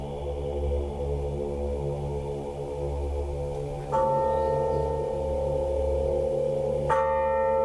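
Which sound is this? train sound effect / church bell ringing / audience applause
church bell ringing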